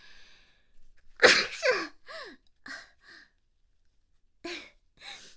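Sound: loud sneeze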